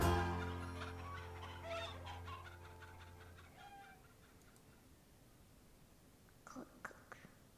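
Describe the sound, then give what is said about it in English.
A person singing Old MacDonald Had a Farm imitates a chicken with a sustained sung note followed by a quick run of clucking sounds, then silence and a few short, softer clucks near the end. “With a cluck cluck here and a cluck cluck here, here a cluck, there a cluck, everywhere a cluck cluck.”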